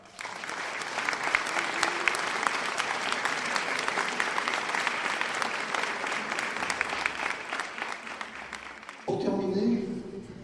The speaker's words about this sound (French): Et je voudrais tous les remercier et je voudrais que vous les applaudissiez.